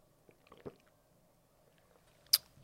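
Someone takes a quiet sip of water, with soft wet mouth sounds and a small swallow, then a sharp lip smack near the end. Faint, with no talking.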